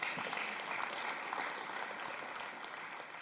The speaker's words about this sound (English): Yeah, you can clap for that.